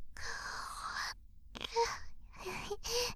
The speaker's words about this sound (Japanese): 思わずあくびが出ちゃった。